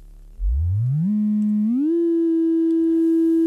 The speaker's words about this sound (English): So, with an electronic analog synthesizer, you can produce tones. There's a patching panel where you push pins into, and you can start by just producing a simple oscillator tone. Here's a simple sine wave.